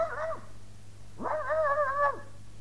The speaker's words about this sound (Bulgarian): Нана не лая така, когато се чувства нещастна. Този лай показва, че надушва опасност.